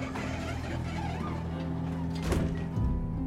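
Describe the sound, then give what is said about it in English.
Elevator doors in a store slide shut over a steady low hum, ending in a soft thunk and a second muffled bump. “The doors close.”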